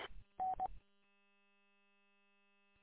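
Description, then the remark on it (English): A roger beep from a mobile radio: a brief crackle of static, then two short mid-pitched electronic tones in quick succession, followed by a long stretch of low steady hum. “you got a Roger beep turned on my mobile”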